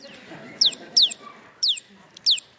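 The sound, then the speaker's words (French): A bird clucks in a steady series of five short, sharp, downward-sliding calls, evenly spaced over a faint, low background murmur, while it is being petted. “Et merci à l'oiseau.”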